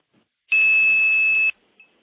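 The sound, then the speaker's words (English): A steady, loud pure tone holds for about one second, then cuts off abruptly, followed by a brief faint chirp like a line answering back. “Now what I'm going to do is play 2600.”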